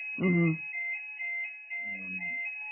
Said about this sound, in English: There's a fire alarm going off in front of this.